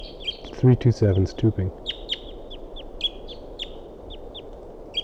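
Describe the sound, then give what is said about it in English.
Several decoy birds give a steady series of sharp, high chirping calls in response to a wild bird, repeating every half second or so, while a man speaks briefly near the start. “Decoys responding.”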